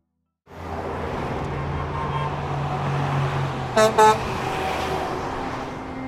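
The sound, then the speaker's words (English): Steady roar of city car traffic in Los Angeles with engines rumbling, then two short car horn honks in quick succession near the end, loud over the traffic noise. “But despite the traffic jams, for many, driving in LA is quicker and more convenient.”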